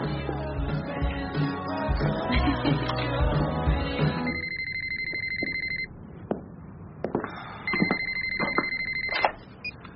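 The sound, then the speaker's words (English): A telephone rings in two steady, clear electronic bursts, each lasting over a second, after a stretch of loud music cuts off. “do you always answer the phone like that?”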